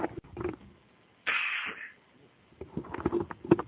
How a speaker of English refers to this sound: Nasty little cough there, a real tickle in my throat. Excuse me.